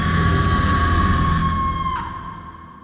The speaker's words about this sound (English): opened her mouth wide, and this time was able to scream.